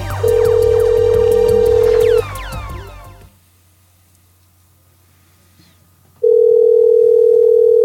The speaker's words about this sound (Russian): Набираем обратно, потому что у нас звоночек сорвался.